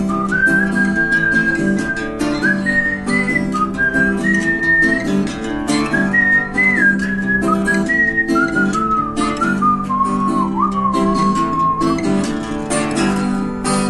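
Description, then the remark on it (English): A clear whistled melody glides through a continuous tune, fairly loud, carried over steady instrumental accompaniment for the whole stretch, with no talking. “Let's whistle while we work.”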